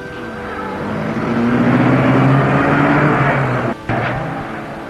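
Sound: taxi driving away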